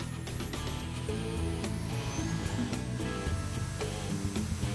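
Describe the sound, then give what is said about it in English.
A radio-controlled model jet with a miniature gas turbine engine roars steadily and loudly as it takes off down a runway, a thin high whine climbing in pitch above a dense, rumbling low drone. “Miniature turbine engines sound and work like those of a big jet. These jets rumble and soar and can be made to perform many aerobatic stunts.”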